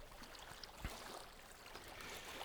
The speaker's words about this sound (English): Better let this narrow boat pass.